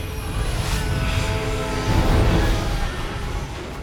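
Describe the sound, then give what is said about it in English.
A jet aircraft roars loudly and steadily overhead, a dense rumbling engine wash with a faint high whine, swelling slightly midway as it descends from a cloud of thick smoke and lands on the roof of a lab. No voices. “The X-Jet descends from a cloud of thick smoke and lands on the roof of the lab.”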